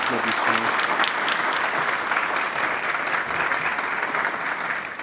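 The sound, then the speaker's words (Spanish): Sustained audience applause, a dense steady wash of many hands clapping at even loudness throughout, with faint voices murmuring underneath. “Aplauden ustedes por nada, por favor. Dejen de aplaudir.”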